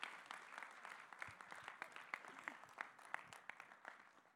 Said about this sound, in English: a huge hand clap as she comes and brings a word this morning.